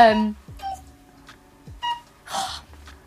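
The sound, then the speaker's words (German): A cuckoo clock calls in short, hooting tonal bursts spaced apart, with clicks and a breathy mechanical whoosh between the calls. “Sorry, Kuckucksohr. Ich glaube, der war heute noch ein paar Mal.”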